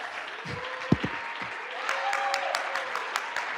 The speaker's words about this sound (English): There ought to be somebody clapping.